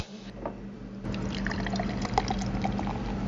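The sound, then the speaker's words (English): A sour beer is opened and poured into a glass, a steady gurgling stream with fizzy, crackling bubbles that rises after a quieter start and continues for a few seconds, with no talking. “Can we crack one of these open and try it?”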